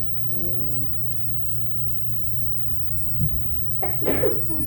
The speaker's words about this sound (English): Excuse me. I don't have a cold. I just sort of sneeze sometimes.